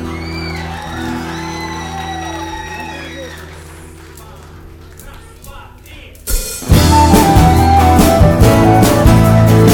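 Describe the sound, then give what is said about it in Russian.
Quiet sustained musical tones give way, about two-thirds through, to a sudden loud burst of audience applause with cheering and whoops, being recorded onto tape, that stays dense and steady to the end. “Спасибо, ваши голоса и ваши аплодисменты тоже будут на этой пленке, если только эти люди не забывали менять свои кассеты.”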